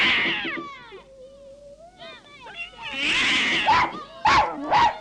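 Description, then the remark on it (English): An alley cat confronting a terrier yowls and growls in a drawn-out, wavering cry, then lets out several sharp, loud snarling bursts, the sound of an agitated standoff. “The terrier runs off and comes face to face with an alley cat.”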